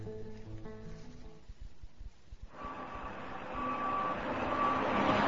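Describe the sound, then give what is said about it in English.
A cement truck bringing cement to a construction site backs up, its warning beeper sounding repeatedly while the diesel engine grows into a loud, steady rumble. “The truck drivers are coming with the cement.”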